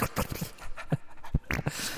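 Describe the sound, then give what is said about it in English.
A dog snuffles, snarfles and snorts, a run of short, irregular breathy sniffs and snorty puffs at a fairly low level, with no one talking. “What's the point in playing a minute of just incomprehensible dog snuffling noises?”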